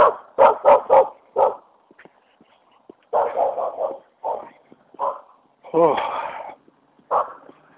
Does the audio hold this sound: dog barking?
yes